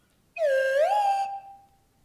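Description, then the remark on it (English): A single slide whistle note about a second long, holding steady, dipping slightly, then gliding up in pitch before fading out. No tune, just one sustained, buzzy-bright tone on its own. “After I play this with a slide whistle.”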